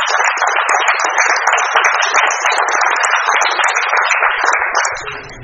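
A room full of people applauds, a dense, steady wash of many hands clapping at once that holds strong for several seconds, then tapers off at the end.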